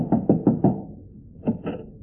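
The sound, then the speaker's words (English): Someone knocks on a door: four quick, evenly spaced wooden raps, a short pause, then two more. The thuds are firm and low, with no voices. “I'll knock on the door.”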